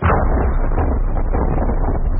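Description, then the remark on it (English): The first atomic bomb, tied to a post in the New Mexico desert and triggered by remote control as a controlled experiment, explodes in a deep, continuous roar that rumbles heavily for a couple of seconds at a steady, loud level, dense in the bass with no sharp break or pause. “As a controlled experiment, we tied the first atomic bomb to a post in the New Mexico desert, triggering it by remote control.”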